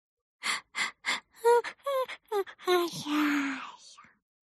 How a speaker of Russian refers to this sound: И Соня широко сладко зевнула.